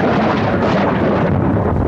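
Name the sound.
thunder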